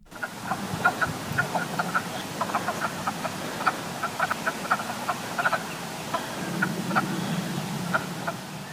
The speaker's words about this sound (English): If you guessed a wood frog and a little grass frog, you were right. You heard the clucking of a wood frog and the insect-like chirps of a little grass frog. These two species are part of 28 native frog and toad species found in Virginia.